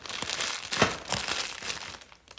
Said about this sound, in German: Der Vanya sagt, komm nur herein, ich heize gleich im Ofen ein. Das Feuer zischt und prasselt laut.